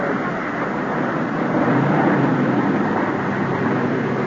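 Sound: car pulling up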